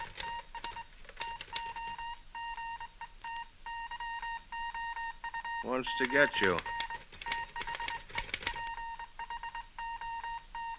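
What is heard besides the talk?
telephone ringing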